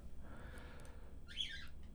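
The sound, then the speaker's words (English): A pet bird in a kitchen gives a single short, bright chirping whistle partway through, soft, over a quiet low hum with no talking. “I'm hanging out with a bird.”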